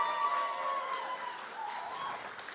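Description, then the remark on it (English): Audience applause for two youth volunteers joining the speaker on stage fills the whole stretch, a dense, even wash of many hands clapping at steady loudness, with a faint whistle-like tone threading through it. “Now, the reason why I got a strong applause over here, they are youth volunteers, so thank you for that.”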